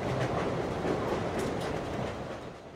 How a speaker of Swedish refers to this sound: därför sitter jag och min producent Tanvir på ett tåg mot Göteborg